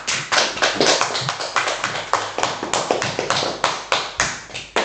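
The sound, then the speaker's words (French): A burst of applause from a small group after a cup songs performance, many overlapping hand claps in a steady, fairly loud patter that carries evenly through all five seconds with no voices over it. “Waouh, génial, on peut vous applaudir, hein.”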